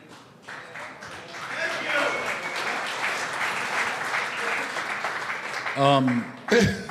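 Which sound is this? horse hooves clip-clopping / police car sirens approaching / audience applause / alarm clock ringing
audience applause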